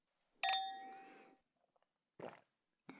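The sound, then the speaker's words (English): Wine glasses, freshly poured, clink once in a toast, a bright ring that lingers for about a second before fading, followed by two brief, softer knocks. “You know how to pour. You're a bit of a bartender, huh? Look at you go. Cheers.”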